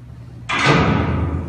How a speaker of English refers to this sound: In the story, they said the doors closed